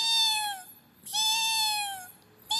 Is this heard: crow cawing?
no